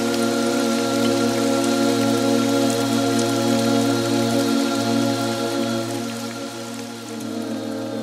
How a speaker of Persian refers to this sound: سرانجام درهای آسمان را گشودیم و آبی فراوان و پیوسته بارید.